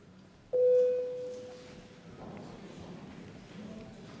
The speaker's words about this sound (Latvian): Lūdzu zvanu.